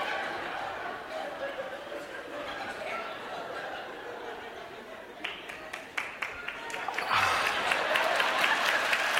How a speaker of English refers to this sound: No. Wrong place for applause.